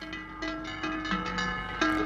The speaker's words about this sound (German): Das sind tiefe Glocken, Pudding, vielleicht von Kühen.